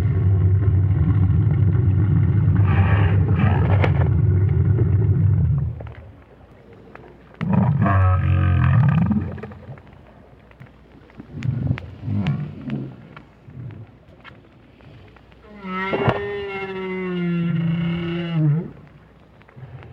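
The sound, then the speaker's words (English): Calls of a lone adult right whale recorded by Roger Payne with a hydrophone placed on the sea bottom near Peninsula Valdez, Argentina: two long, low growling bursts, scattered quieter grunts, then a drawn-out moaning tonal call near the end, with no voices present. “at least Roger Payne doesn't think so, but the renowned whale scientist was a bit perplexed by the sounds made by this lone adult.”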